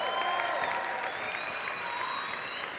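Steady audience applause fills the whole stretch, a dense, even patter of many hands clapping at a constant loud level, with a few faint whistling tones drifting above it.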